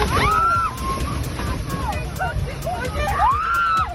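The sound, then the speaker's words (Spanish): Strong wind gusts roar and buffet steadily in Córdoba, Spain, with a heavy low rumble and hiss, while a few faint, rising-and-falling tones and voices come through beneath it. “Fijaos, un viento que hoy soplaba así en Córdoba.”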